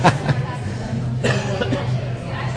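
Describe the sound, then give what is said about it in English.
A few sharp, raspy coughs from a person getting over a cold burst out, spaced unevenly over a couple of seconds against a low background hum. “So, obviously, we're excuse the coughing. I'm getting over a cold.”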